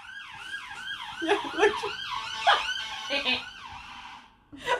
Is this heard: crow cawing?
no